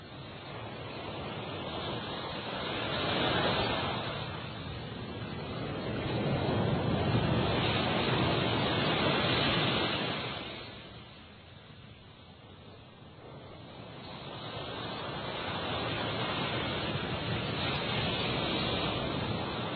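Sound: roaring ocean waves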